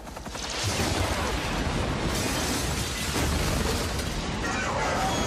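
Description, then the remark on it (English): An explosion from the film Independence Day: a loud, sustained blast roaring with deep rumble and crackling debris for about five seconds, with a second surge of noise midway through. “I like the Independence Day clip, so we're just gonna show it again. It needs to be blown up.”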